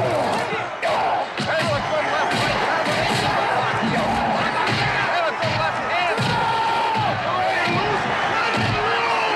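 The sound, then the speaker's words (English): Heavy, crunching boxing punch sound effects in a film fight land every second or two over a loud, roaring crowd, each blow a sharp thud cutting through the constant wash of cheering and shouting. “the sound effects to make it sound more quote unquote realistic and not so comic book style like they are in this film”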